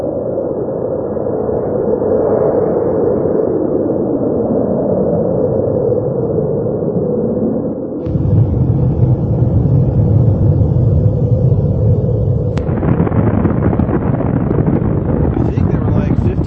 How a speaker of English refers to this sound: In fact, I brought this video here. This is called Tsar Bomba. This is the largest explosion done by the Russians.